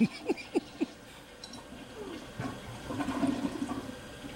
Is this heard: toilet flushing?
yes